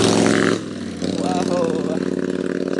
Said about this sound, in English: That was a very, very loud motorbike, wasn't it